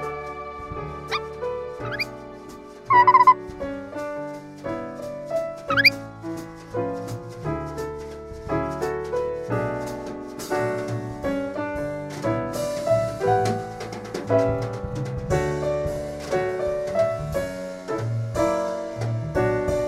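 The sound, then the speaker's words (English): A full orchestral passage plays continuously, with strings and winds layered together, while a few high, squeaky chirps and sliding whistles pop out near the start: the orchestral, a fictional rare African bird that can mimic every instrument in the orchestra at once, imitating the instruments. “For those of you who haven't heard Season 1, The Orbiting Human Circus of the Air, the orchestral is a rare African bird that can mimic every instrument in the orchestra at once.”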